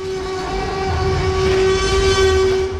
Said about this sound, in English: That's the secret sauce of the T-Rex roar? That is the secret, a little cute little baby elephant, and it only roared once. That's awesome, though, especially that it's a baby elephant, because could you get any more opposite of a T-Rex?